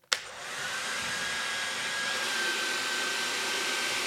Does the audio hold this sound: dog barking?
no